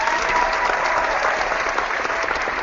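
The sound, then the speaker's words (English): Steady, dense applause from a crowd, loud, a continuous wash of clapping with no pauses and no one speaking. “Big round of applause for yourselves.”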